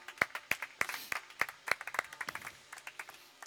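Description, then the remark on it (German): An audience applauds for the instructors and young trainees of the GBF (Gesellschaft für berufliche Förderung), who built the church: a burst of sharp, overlapping hand claps, with several crisp, evenly spaced claps standing out at first before the clapping thins into a softer, scattered patter. “Der erste Applaus schon für euch.”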